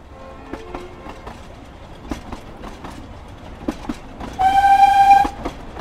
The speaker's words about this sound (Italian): Il treno viaggiava da oltre 3 ore nella valle brumosa. Superava villaggi.